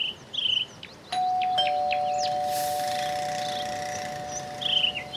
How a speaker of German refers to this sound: Gut, dann lass uns bei Frau Meier klingeln, aber leise. Nichts. Klingel nochmal. Da muss doch jemand zu Hause sein.